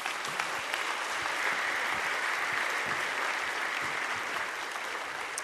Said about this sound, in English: Let's applaud for that right now.